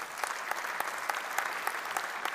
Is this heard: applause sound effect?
yes